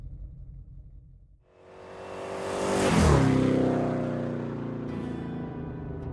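A car engine idles low, then revs up as the car is put in reverse and eased out of a garage, the whine rising to a loud peak before settling into a steady, rumbling drone. No one speaks.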